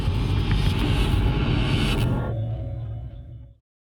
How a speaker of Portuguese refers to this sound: Tamo no ônibus agora.